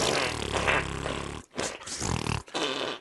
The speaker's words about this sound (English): Cop that, Hitler. That'd be funny out of context. Just fart noises.